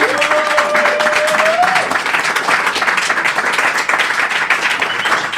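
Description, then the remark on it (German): Steady, dense applause from a crowd, many hands clapping in a continuous roar, with a brief rising tonal whine or whistle in the first two seconds. “Bitte einmal Applaus für den Mann.”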